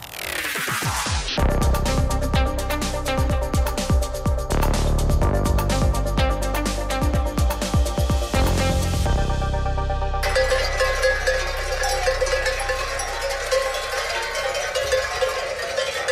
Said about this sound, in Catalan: Doncs això que sentim és bestiar, també són vaques, és l'inici de la transhumància que es fa per l'arribada de la tardor i del fred, però al Pirineu cada cop hi ha menys ramaders que desplacin els ramats a peu fins als pobles.